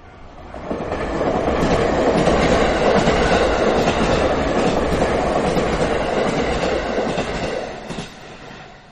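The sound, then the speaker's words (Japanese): A subway train rumbles steadily along the rails while people ride it, loud, with a continuous low roar and faint clattering of wheels, fading slightly near the end. No voices. “そのまま私たちは店長の後をつけて地下鉄に乗りました。”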